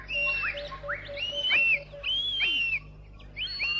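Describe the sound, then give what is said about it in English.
A bird in a forest cries out in a quick series of sharp, whistling calls, each one rising then falling, repeated several times over a faint low hum. “He stood undecided, and then the bird cried.”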